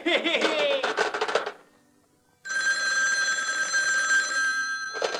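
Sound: telephone ringing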